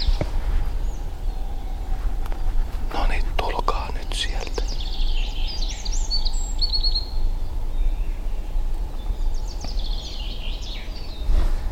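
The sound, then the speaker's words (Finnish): Swans call from very far away in faint, wavering, echoing honks, a short cluster midway and another near the end, over steady low rumble, with a soft whispering voice at the start. “Nyt tulee joutsenia jostain.”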